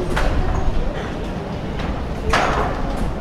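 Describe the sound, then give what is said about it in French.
The swinging doors of a small women's clothing shop right beside a metro exit bang open and shut twice, a few seconds apart, at 8:30 in the morning, with busy, noisy street ambience and indistinct voices around them. “Et là, juste à côté de la sortie du métro, des portes battantes, il y a une petite boutique qui vend des vêtements pour femmes.”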